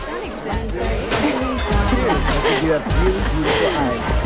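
Steady crowd chatter at a dance: many overlapping voices blend into a busy, unbroken murmur with no single speaker standing out, holding a fairly even loudness throughout.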